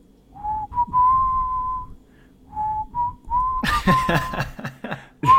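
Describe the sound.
A person whistles a slow melodic tune in two phrases, clear, then breaks into laughter partway through as the whistling continues faintly.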